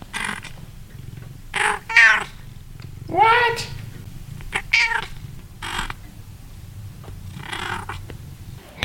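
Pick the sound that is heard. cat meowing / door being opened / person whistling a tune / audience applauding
cat meowing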